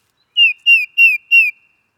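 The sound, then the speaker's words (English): A titmouse sings its simple two-note 'hear hear' song of clear, downslurred whistles repeated four times at a steady, even pace, loud, with nothing else in the background. “Next is the even simpler Hear Hear.”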